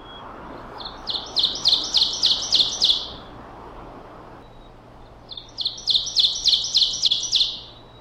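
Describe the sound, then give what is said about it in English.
Two loud songs of an ovenbird, each a rapid series of ringing two-note phrases that grows louder toward the end, separated by a short pause against quiet outdoor background. “This is an oven bird, a secretive little bird you'll hear far more often than you see.”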